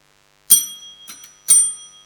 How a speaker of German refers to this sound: Die Schulglocke hat geklingelt, die erste Stunde beginnt.